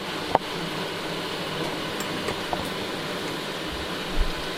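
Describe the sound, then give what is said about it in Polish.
A washing machine runs steadily through a wash cycle, a constant broad mechanical hum with a sharp click near the start and a couple of soft low thumps toward the end. No one speaks. “No, słuchajcie sobie, jak pierze pralka.”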